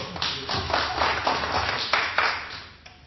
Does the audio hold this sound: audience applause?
yes